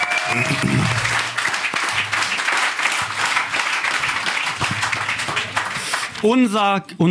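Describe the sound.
A crowd applauds loudly and steadily for several seconds for a man called to the front, dense clapping filling the space, with a tonal hum underneath and a voice breaking in near the end.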